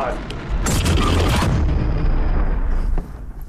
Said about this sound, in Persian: آیا او برای ساخت اوپنهایمر دست به یک انفجار واقعی زده؟ چیزی شبیه به یک انفجار هسته‌ای؟